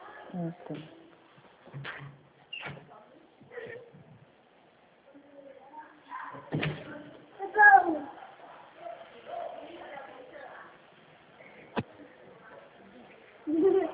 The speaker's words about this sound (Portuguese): E esse bebê aí de fundo, é seu bebê? É. Quantos aninhos ele tem? Tem dois.